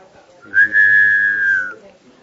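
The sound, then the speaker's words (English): A human two-note whistle signal, two notes at the same time, as whistled in Chickasha, meaning time is almost up: one long, steady, fairly high tone for just over a second, loud, with a faint second tone layered above it and no talking. “That's how we whistle down in Chickasha.”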